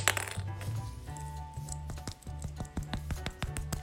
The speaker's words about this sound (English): one hand I had a little fidget toy that turned, and it wasn't even soft. It's like really, really hard.